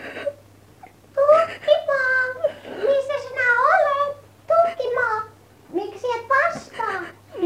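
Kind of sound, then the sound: human body sound, girl crying and sobbing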